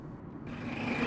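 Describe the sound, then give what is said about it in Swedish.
Bus engines idle with a steady low rumble and a faint droning hum, swelling slightly louder over about a second, with no voices; the buses have just started at the Evitskog reception centre in September 2017, as about ten men prepare to board for Kauhava. “Nu är alltså bussarna har startats och här är nu ett tiotal män från Evitskogs mottagningscentral som alltså ska stiga in i dem och åka ända till Kauhava i norrut alltså.”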